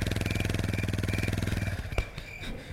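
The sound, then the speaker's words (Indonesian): A motorcycle engine cranks with a fast, steady chugging for nearly two seconds, then cuts out without catching, followed by a sharp click and quiet mechanical noise. The rider is repeatedly trying to start the stalled motorcycle on a dark road. “berusaha menstarter motornya berkali-kali, tapi tetap aja gak bisa hidup.”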